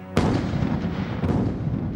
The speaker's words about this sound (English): The thunderous explosion, the sulphurous smell, the spitting flame struck terror into the enemy. A chronicler of the time wrote, "They made a noise like thunder and caused much loss in men and horses."